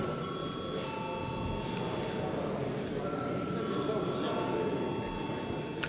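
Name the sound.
parliament chamber bell ringing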